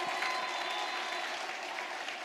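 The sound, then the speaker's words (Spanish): A church audience applauds steadily and vigorously during a sermon, a dense, even wash of many hands clapping that holds at a fairly loud level throughout, with no voices standing out above it. “Dele fuerte ese aplauso, déselo fuerte.”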